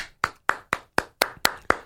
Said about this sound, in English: Well played. A golf clap for the penises.